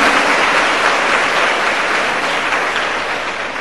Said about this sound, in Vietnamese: Như vậy các con hãy cho một tràng pháo tay rất lớn để tán thán điều đó.